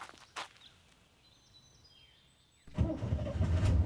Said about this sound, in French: Il est temps qu'on parte d'ici. Essaie de faire redémarrer la voiture.